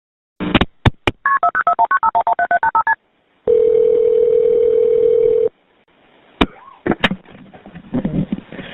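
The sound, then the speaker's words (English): A few sharp clicks, then a quick run of cell phone keypad dialing tones beeping in rhythm as 911 is dialed, followed by a steady two-second phone tone and more clicks and handling noise. No one speaks. “She made sure the phone volume was turned all the way down, and then she dialed 911.”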